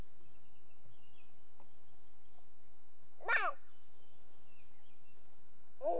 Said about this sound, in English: Bird. Did you see the bird in the feeder? Bird. I think it's a chickadee. Or a sparrow. See, he's eating the bread.